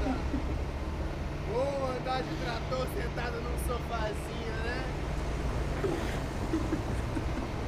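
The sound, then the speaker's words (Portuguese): A tractor engine drones steadily and low throughout, a constant rumble with voices talking faintly over it. “De trator sentado num sofazinho, né?”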